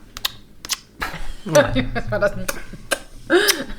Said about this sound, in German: Das war ein Hodenknutscher, aber kein Klatscher. Aber gut, wir lassen die Leute einfach mal in dem Glauben, dass dieses auf die Wange hauen und dabei Kussgeräusche zu machen, dass das ein Hodenklatscher war.